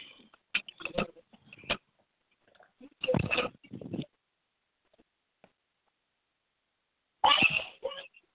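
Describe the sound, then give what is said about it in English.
Several sharp, explosive sneezes burst out, each brief and forceful, separated by a few seconds of quiet. “God damn it, bless you.”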